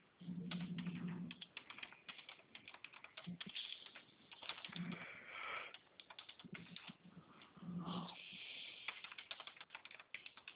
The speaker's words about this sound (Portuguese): Só tô aqui tentando entrar no aplicativo, tá? Tá bom. Coloco, tô digitando aqui assim.